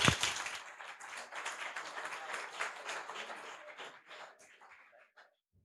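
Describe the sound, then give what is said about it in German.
An audience applauds a project team, APTR, as they line up to present, with dense, crackling claps that hold steady for several seconds, then thin out and trail off into silence near the end. “Applaus!”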